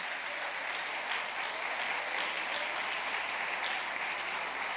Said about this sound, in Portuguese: É para aplaudir? Aplaude com vontade.